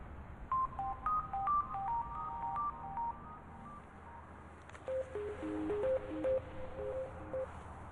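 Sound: telephone call ringing tone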